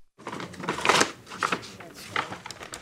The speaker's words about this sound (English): is rustling through a paper bag while her patient looks on. They're in the exam room of a hospice center.